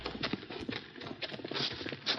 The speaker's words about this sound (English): Hold it. Hmm? Listen a minute. Someone coming. Yeah, hear a horse.